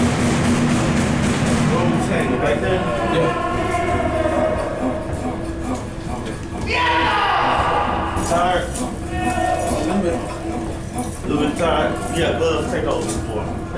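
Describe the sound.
Loud, repeated banging on metal cell doors, irregular and relentless, mixed with several voices yelling and shouting over one another throughout.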